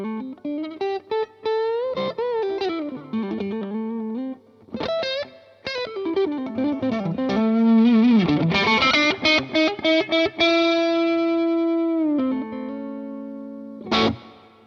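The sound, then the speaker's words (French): An electric guitar played through a warm analog overdrive pedal, with sustained chords and single-note bends that ring out, swell and cut off across several phrases, loud with no talking. “On peut jouer avec le volume de la guitare, comme on est sur une section distorsion et drive analogique, c'est hyper dynamique et c'est méga naturel.”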